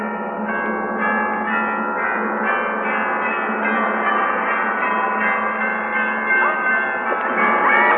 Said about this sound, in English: Let the bells ring out.